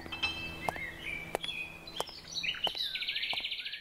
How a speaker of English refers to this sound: Oh, those birds are just beautiful in there